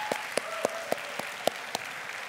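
A round of applause: a steady wash of clapping with sharp, evenly spaced claps standing out in a regular beat, about seven over two seconds. No one speaks.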